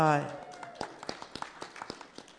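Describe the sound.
A brief voiced sound opens, then a single pair of hands claps a quick, slightly uneven string of about a dozen sharp, soft claps.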